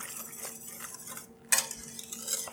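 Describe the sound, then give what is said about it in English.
A whisk scrapes and swirls through a cream sauce with salt, pepper and dried ground mustard in a pan, a steady stirring with bright metallic clinks, plus a sharper scrape about halfway through. No one speaks. “I've got a whisk here, and I'm just giving it a good stir.”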